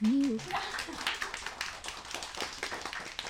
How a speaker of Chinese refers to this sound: 给你鼓鼓掌。